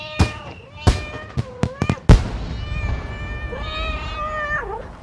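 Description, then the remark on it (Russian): Cats meow over a burst of fireworks in the city of Irkutsk on City Day: a quick run of sharp bangs and crackles in the first two seconds, then a long, wavering meow rising and falling to the end. “Фейерверк в городе Иркутск на День города котятами.”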